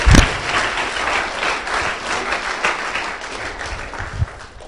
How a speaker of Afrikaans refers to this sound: Kom ons gee hande klap en celebrate die kind.